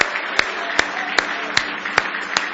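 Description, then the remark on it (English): A church audience claps in praise of the Lord: a steady wash of many hands, punctuated by sharp, evenly spaced unison claps about every 0.4 seconds, six in all. Nobody speaks. “Give Him a real big hand clap of praise.”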